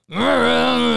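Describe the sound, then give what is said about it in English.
A person imitates another person's snoring with a single drawn-out, snore-like groan, loud, held steady for about a second with no other sounds around it. “Now that's you snoring.”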